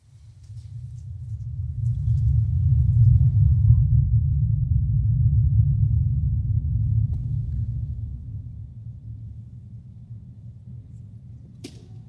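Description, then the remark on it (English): A steady low hum from a loudspeaker builds up and holds, then noticeably drops in loudness partway through as students slowly move a second cancellation speaker, which plays the opposite anti-noise signal, close to the first. The hum continues at a softer level until the end. No one speaks. “And as I turn both sound sources on, and my students slowly move the cancellation speaker close to the first, everyone, no matter where you are seated, will hear it get quieter.”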